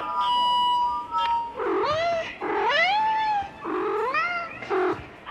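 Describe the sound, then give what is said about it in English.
A cat, Corncob the Calico, meows three times out of a speaker in long, rising-and-falling wails, loud, after a brief steady electronic tone at the start; no one speaks. “That's why when you hear something out of that speaker and it sounds like a cat meowing, it is a cat meowing.”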